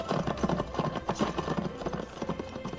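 A mare galloping, her hooves drumming in a rapid, steady rhythm of dense, thudding beats. Moderately loud, continuing throughout with no voices over it.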